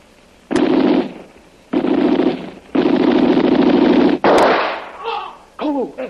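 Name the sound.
gunshot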